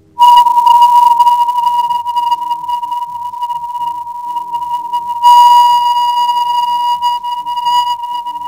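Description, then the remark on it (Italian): A radio echo of the Leonid meteor shower, which peaks in November, recorded during a time of intense shower activity, heard as a steady, piercing whistle-like tone that holds for several seconds with a crackly, fluttering texture and brief surges in loudness. “Quasi un sibilo, questo era lo sciame meteorico delle Leonidi che è al suo massimo nel mese di novembre.”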